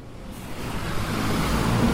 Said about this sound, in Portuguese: O caos dos ônibus, vocês estão ouvindo, né? Aqui é um lugar muito movimentado, né? Tem muita gente andando, muito carro passando. A gente está bem na praça aqui, virado para Conde Bonfim, que é uma das principais avenidas aqui da Tijuca.